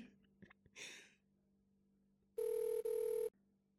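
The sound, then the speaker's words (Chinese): A telephone rings loudly, a steady electronic tone lasting about a second with a brief break in the middle, after some soft rustling and a short breathy noise. “我接电话。”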